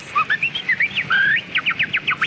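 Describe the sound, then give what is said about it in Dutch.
A person whistles a close imitation of a finch's song: a run of bright, high chirping notes ending in a quick series of repeated descending tweets, clear, with no talking. “Een vinkje. Er wordt een vinkje nagedaan.”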